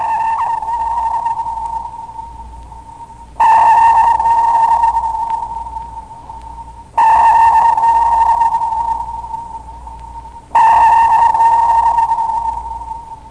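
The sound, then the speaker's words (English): Sonar pings repeat about every three and a half seconds, each a loud tonal burst followed by a long, gradually fading reverberation echoing back from the water, with no voices present. “The sonar sequence consists of an emitted transmit pulse, reverberations or echoes returning from the water medium,”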